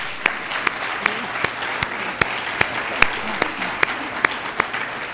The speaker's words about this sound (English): Please join me in a round of applause for our speakers.